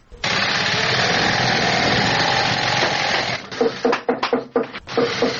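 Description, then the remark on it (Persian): A steady, loud mechanical whir of sewing machines running in a shoe factory in Kabul, Afghanistan fills the space, then gives way to a quick series of sharp, irregular knocks as workers hammer. “یکی از کارخانه های تولید بود در شهر کابل که کارگرانان با دلسردی تمام و نامید از یک آینده روشن چکش می زنند و چرخ ماشین های بودوزی را با صدا در می آورند.”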